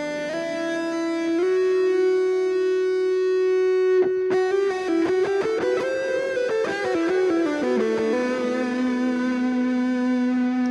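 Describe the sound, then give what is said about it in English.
A synthesizer lead, the Terra Echo lead patch, plays alone with an echoing effect: a long held buzzy note, then a quick run of shorter notes with pitch bends, settling back onto a sustained tone. Steady and fairly loud. “This is the Terra Echo lead.”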